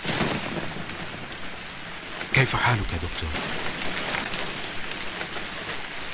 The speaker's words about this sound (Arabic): كم هو غزير هذا المطر. الكل يقول المطر جميل، أما أنا فأقول هي لعبة السماء المحببة.